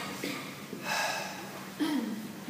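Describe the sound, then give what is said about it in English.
A voice imitates breath being blown out, depicting God breathing the breath of life into man's nostrils: two airy, hissing exhalations, the first longer and steadier, the second shorter with a faint voiced edge, moderately loud. “So God breathing.”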